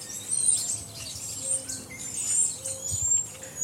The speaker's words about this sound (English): It sounds like a bunch of women at brunch out on the branch. And those noises, even just sitting in the backyard, the types of birds that are out here, like, it brings me right back.